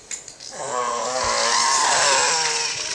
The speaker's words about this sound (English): Superman is driving a motorcycle.